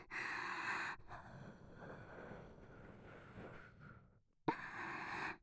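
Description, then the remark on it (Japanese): Heavy, erotic breathing into the mic: a loud, rushing breath, then a long drawn-out one that fades away, a brief pause, and another strong breath. No talking. “色のったエッチな息、君を興奮させるためだけの息吹。”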